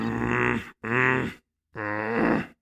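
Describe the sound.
A voice imitates an angry growl in three rough, throaty bursts, low and harmonic-rich, each lasting under a second with brief silences between, the last one longest and most guttural.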